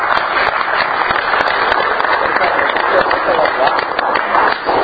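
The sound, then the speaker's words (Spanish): Steady applause from an audience, a dense crackle of many hands clapping at once, fairly loud and sustained for several seconds without a break, with no clear talk over it. “Es un aplauso.”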